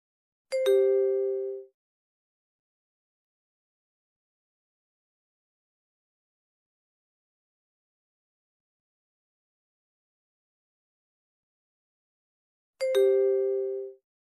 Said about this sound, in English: All right. Please enter your card information when you hear the beep.